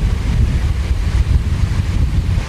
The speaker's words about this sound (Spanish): Nos quedamos con el sonido ambiente de lo que es la correntada del agua que ingresa al lago del Parque del Sur.